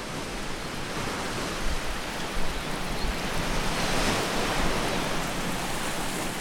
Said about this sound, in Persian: دیوچه دوم، این قسمت به دریا گوش میکنید.